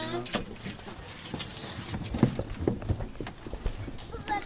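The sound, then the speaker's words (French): Horses' hooves clip-clop steadily as a horse-drawn carriage (calèche) carrying visitors at the end of a guided tour rolls along, the clopping rhythmic, with people talking faintly in the background. “Attendez bien l'arrêt total hein, pour descendre de la calèche. Et n'hésitez pas à venir voir les chevaux.”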